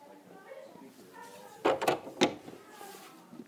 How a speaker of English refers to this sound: Close these doors.